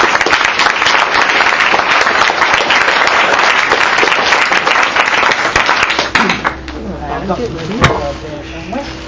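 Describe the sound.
A crowd applauds with loud, dense clapping for about six seconds, then the applause dies away and voices are heard.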